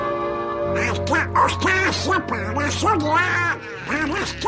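The cartoon character Donald Duck's raspy, quacking voice chatters in rapid, garbled bursts, loud, over a steady low musical hum.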